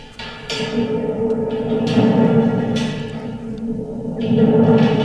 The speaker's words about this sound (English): Yeah, before we go any further, I want to play this instrument. All right. What instrument? What's the horn? This is called a tormenta, or a thunderstorm.